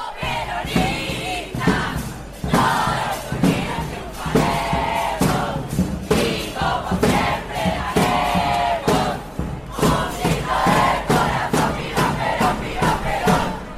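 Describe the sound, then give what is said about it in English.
A large crowd of students from the Carlos Pellegrini School in Buenos Aires chants and shouts together outside late at night while awaiting the student body president election result, loud and continuous, with rhythmic bursts of yelling and cheering rising over a steady roar. “Chanting and cheering as they were waiting to find out who was going to be the student body president elected for the next year.”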